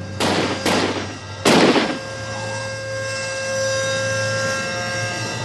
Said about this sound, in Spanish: El vecino de Newman, Derek Murphin, está en casa aquel lunes por la noche y oye los disparos.